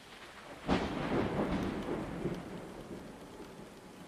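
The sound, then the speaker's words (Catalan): Steady heavy rain pelts against window glass in a dense, continuous patter, with a sharp burst near the start and a low rumble underneath like thunder. No voices. “La pluja colpejava les finestres, però dins el silenci era total.”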